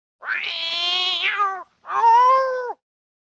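A cat meows twice, a drawn-out, wavering first meow followed after a short pause by a shorter, rising-falling second one, with no voices or other sounds around it.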